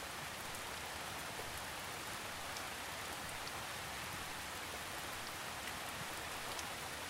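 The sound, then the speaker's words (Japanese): Steady rain falls continuously with a dense, even hiss and faint scattered drop taps, at a quiet, unchanging level with no voices. “次に、雨が降り続く中、お家の中でゆったりとくつろいでいる自分を想像していきましょう。”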